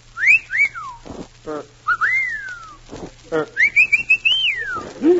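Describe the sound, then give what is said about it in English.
A person whistles a series of catcall-style phrases, bright rising-and-falling swoops and a longer warbling run, separated by short breathy pauses. “Wonder how a girl would whistle at me.”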